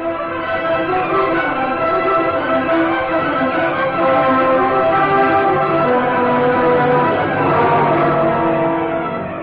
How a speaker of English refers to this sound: Outside the house, Brick Reed, after pressing the door chimes for a fourth time, turned to Commissioner Higgins. Well, that's strange. Surely someone in there has heard me ring.